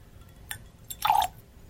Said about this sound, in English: But this is a nice scotch. I like it. Shall we put a little drop of water in there? Yes. All right. There you go.